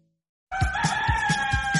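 After a brief silence, a rooster lets out a loud, drawn-out crow that runs to the end, with a steady rhythmic thumping pulsing underneath it.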